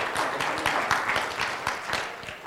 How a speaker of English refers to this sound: And I mean, that's okay to clap because right now, I mean, my doctor told me, she said, you don't have kidney disease anymore.